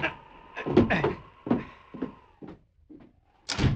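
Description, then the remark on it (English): A door is pulled shut: a drawn-out creak of hinges runs under a series of wooden clunks and rattles, ending in a firmer thud as it closes. “Close the door while I keep him covered.”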